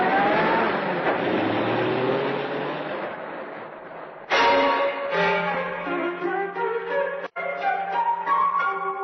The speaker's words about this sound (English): Car drives away.